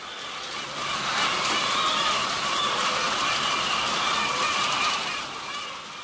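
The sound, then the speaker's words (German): A dense chorus of chickens clucking together, a busy, continuous flock chatter that swells in and holds steady at moderate loudness before easing off, with no talking. “Hühner.”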